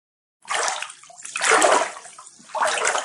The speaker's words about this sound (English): You splash once, and ripples spread out. Splash again at the right rhythm, and the waves grow, reinforcing themselves.